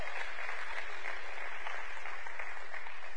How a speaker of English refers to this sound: Clear the alleyways with a big round of applause.